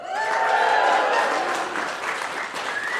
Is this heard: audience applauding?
yes